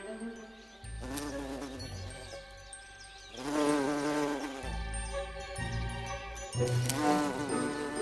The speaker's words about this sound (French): Dès le petit matin, au tout début du printemps ou à la fin de l'automne, quand il fait trop froid pour les abeilles à miel, les bourdons sont dehors en train de voler de fleur en fleur, de butiner.